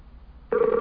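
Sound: skype call ringing tone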